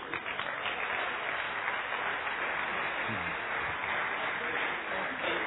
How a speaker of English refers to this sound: give him a good round of applause, and he will sing you a gospel song.